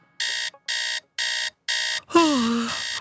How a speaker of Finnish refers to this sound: Ai herätys. Ai pois.